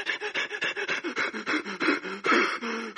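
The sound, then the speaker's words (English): A man imitates heavy, labored panting: rapid, rhythmic breaths in and out, loud, repeating steadily without pause for several seconds, with no words spoken. “and because of the beating his body had already endured, and the blood that would be drained from his body, his breathing would be so extreme, it would much more be like this.”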